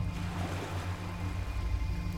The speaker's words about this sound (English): Relax now, just listening to the water as the waves break on the shore and roll back out again, and roll in and out, relaxing your calm.